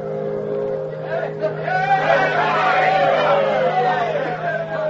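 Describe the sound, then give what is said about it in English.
A large crowd at a dock in Dawson City on the Yukon River cheers and shouts together in clear air as the last riverboat of the season steams into port, the roar of many voices swelling after the first second and holding steady, over a constant low mechanical drone like a boat engine. “Cheers cut through the clear air as the Bonanza Belle steamed into port.”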